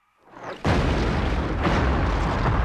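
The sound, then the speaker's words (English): A rising whoosh builds into a heavy, booming impact, followed by a loud, sustained roar and rumble with a second surge partway through, as fireballs thud into the sand by the Egyptian pyramids. “Fireballs thud into the sand by the pyramids.”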